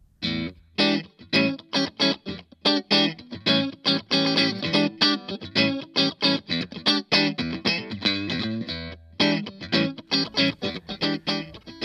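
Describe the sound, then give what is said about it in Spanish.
A Fender Stratocaster electric guitar plays a quick run of plucked notes and chords with a bright, slightly effected tone, steady and fairly loud, with no voices. “este segundo tipo de sonido es el de la marca Fender, el modelo Stratocaster”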